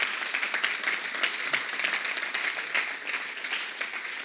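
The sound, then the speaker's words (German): A large crowd applauds steadily, many hands clapping in a dense, continuous wash of sound that holds at an even level for several seconds without any voices. “Habt ihr einen Applaus für die?”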